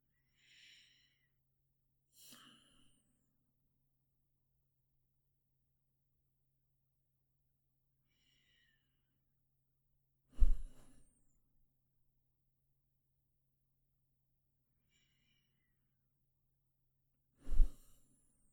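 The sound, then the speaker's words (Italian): Three slow, deep breaths taken to relax and let go of tension, spaced several seconds apart, the first soft and the last two loud, rushing exhales, with faint high chirps and a steady low hum in the background. “E magari potremmo fare tre respiri profondi.”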